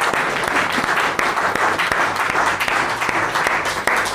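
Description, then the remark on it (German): A crowd claps steadily for several seconds, a dense, loud patter of many hands with scattered sharper claps standing out, and no one speaking over it. The applause is for a guest. “dein Applaus.”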